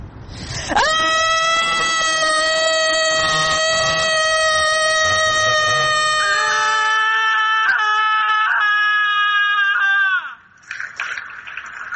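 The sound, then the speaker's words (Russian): A crowd of people screams together in protest in one long, loud, sustained cry lasting about nine seconds, then it breaks off abruptly into quieter background noise. “І всё нам, что позостає, до минута крику.”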